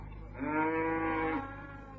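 cattle mooing

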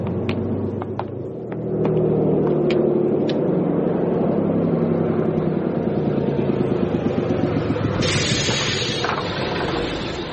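bus engine running

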